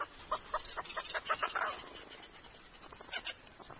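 Antarctic petrels call at a breeding colony over 300 miles inland, the most southerly bird colony on Earth: rapid, harsh chattering bursts in quick pulses, fading briefly before another short cluster of calls, with a dense colony chorus in the background.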